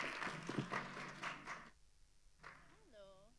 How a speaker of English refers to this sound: Woo! A round of applause.